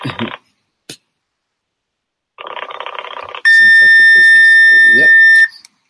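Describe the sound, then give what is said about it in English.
A fax machine's piercing, steady high-pitched tone blares loudly for about two seconds, preceded by a short click and a second of harsh static hiss, then cuts off abruptly. “What kind of dial tone is that?”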